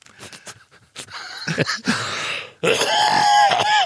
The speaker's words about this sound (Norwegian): Ja, jeg vet ikke, hostet opp en lunga.